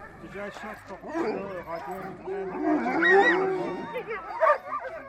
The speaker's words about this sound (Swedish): håller här på att ge mat till sina 24 hundar som han uppbundna runt ett litet skjul i staden Sisimiut.